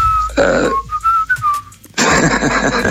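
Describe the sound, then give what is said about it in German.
A man whistles a short tune, a string of clear pitched notes rising and falling, with loud bursts of rough, breathy noise before and after the melody. “Das war jetzt der Mann, der dich da gepfiffen hat.”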